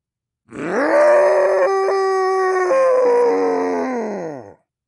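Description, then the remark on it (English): A single deep, guttural, bestial roar rises and holds for about four seconds, loud, then tapers off. No one speaks. “Hing's deep-throated bestial roar echoed.”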